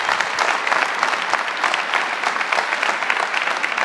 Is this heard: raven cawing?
no